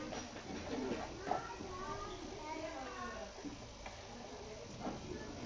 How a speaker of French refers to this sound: Alors, qu'est-ce que c'est? Un oiseau. C'est un pigeon. Pigeon.